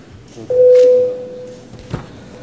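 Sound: parliament voting bell ringing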